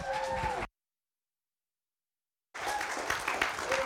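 A church audience claps in a dense, steady burst of applause as the pastor comes up in the evening, breaks off into complete silence for about two seconds, then the loud clapping resumes and continues to the end.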